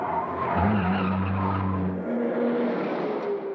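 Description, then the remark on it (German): Car tires skid and squeal loudly over a roaring engine in a film car chase scene, a sustained screech that shifts pitch midway, continuous for a few seconds, with no voices. “Man konnte tatsächlich eine Verfolgungsjagd zeigen.”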